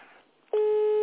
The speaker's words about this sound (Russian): Я переживаю, она трубку не берет.